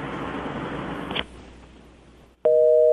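A hissing phone line cuts off with a click as the caller hangs up, then after a quiet pause a steady, fairly loud telephone busy-signal tone sounds for about half a second, with no one speaking.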